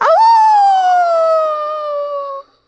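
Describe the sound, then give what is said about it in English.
A person imitates a dog's howl: one long, loud, sustained wavering note that rises sharply at the start, then slowly falls in pitch before cutting off abruptly. “The two spies did not want to be discovered, so they pretended like they were dogs.”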